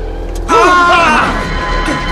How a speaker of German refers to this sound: Der rammt meinen Wagen. Verrückt geworden?